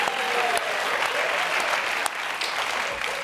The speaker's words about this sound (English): Isn't it amazing how the meaning of a clap changes just by slightly adjusting the angle of your hands? Yeah, because if someone claps like this, it means well done, you did a good job.